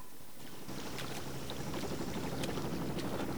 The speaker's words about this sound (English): He wades up to his waist and then stops still.